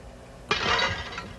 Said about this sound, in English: I also have a sound effects library. How about a smash?